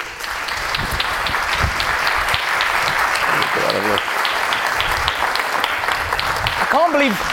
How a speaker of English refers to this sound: That was the very definition of a ripple of applause. Yeah. I was expecting a better entrance, to be honest.